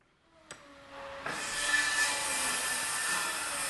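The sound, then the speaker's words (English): Construction work in old brick buildings at Oxford Mills, Philadelphia, where workers are cutting, drilling and fixing brickwork: a sharp knock, then a power tool starts up and cuts with a steady, raspy grinding whine that fills the rest of the moment, with no voices. “Oxford Mills isn't much to look at right now, just old brick walls and a lot of construction workers cutting, drilling, and fixing brickwork.”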